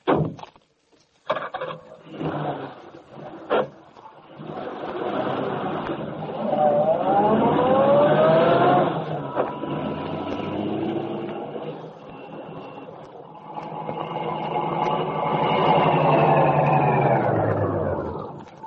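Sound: car engine running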